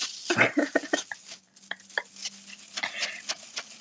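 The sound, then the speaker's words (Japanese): Crinkly, scratchy rustling of a wire toy being handled at home, with a burst of busy clicks and scrapes, a brief lull, then more continuous rustling and jangling throughout. “このワシャワシャした音。”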